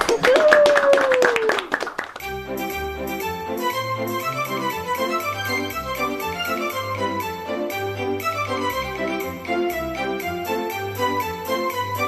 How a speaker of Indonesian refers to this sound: Baiklah, mari tepuk tangan untuk kita semua.